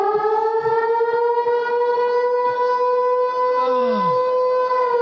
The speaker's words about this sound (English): Set off the alarm.